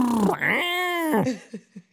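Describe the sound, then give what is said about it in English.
A voice imitates the toy car engine noise a toddler makes when playing with cars: a drawn-out, buzzy vroom that rises and holds, then sputters into three short puffs. Fairly loud, with no other sounds. “Okay, this is another great toddler noise. This is them playing with cars.”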